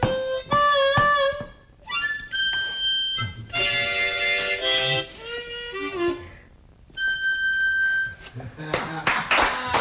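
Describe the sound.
Sharp hand claps land in rhythm under loud, bright jazz horns and singing, with voices calling out between the musical phrases.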